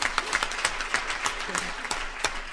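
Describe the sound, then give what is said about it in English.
An audience applauds, a dense, steady wash of many hands clapping with a few sharper claps standing out, holding at an even, moderate level throughout. “Just even driving here, okay, if you want to applaud them, you can.”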